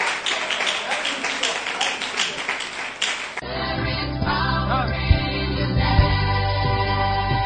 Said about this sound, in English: Clap your two hands for the Lord.